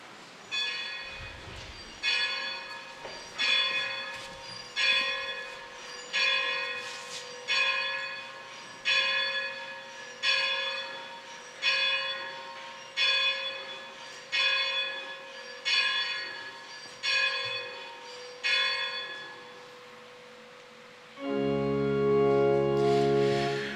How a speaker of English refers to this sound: We started by ringing the bells in. We're going to now ring the bells out to close out Pi Santa, and we only have one other thing to do. If you'll stand, we'll sing our song after the bells ring.